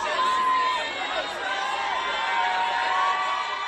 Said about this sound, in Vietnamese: Các ngôi sao Hollywood lần lượt xuất hiện trong tiếng hò reo phấn khích của người hâm mộ.